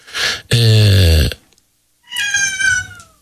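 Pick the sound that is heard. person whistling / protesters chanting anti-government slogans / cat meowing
cat meowing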